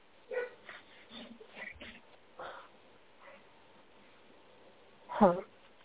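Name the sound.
dogs barking and whimpering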